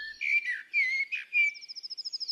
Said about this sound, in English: It's all the birds from Bird Note.